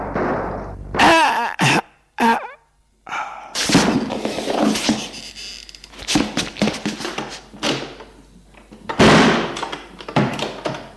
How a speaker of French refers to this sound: que Xavier a entendu la porte claquer, il a couru à la fenêtre.